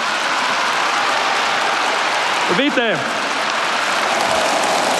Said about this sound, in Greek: Δείτε ποιοι χειροκροτάνε.